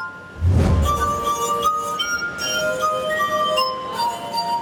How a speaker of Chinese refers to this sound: 他的乐器是大大小小装了水的高脚杯，他用指尖在杯口滑动，弹奏出各种动听的音乐。